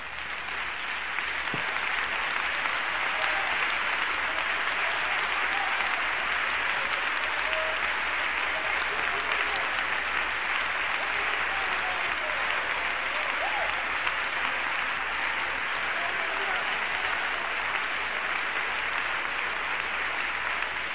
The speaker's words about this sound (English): Would you put your Bibles down and give Jesus a big hand clap right now?